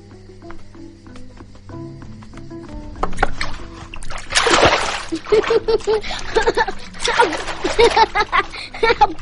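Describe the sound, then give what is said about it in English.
Water splashes and sloshes in repeated loud, irregular bursts as the child Kiriku washes himself, after a few seconds of soft, sustained tonal music. “A child who can bring himself into the world can wash himself.”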